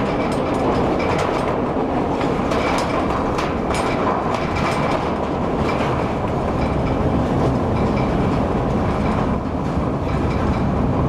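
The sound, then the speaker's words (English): A workers' train rumbles steadily along the rails on its route through an open-pit mine, with continuous loud wheel noise and faint clicks and squeals over a heavy low roar, no voices present. “Therefore, the workers' train now uses the route through the open pit.”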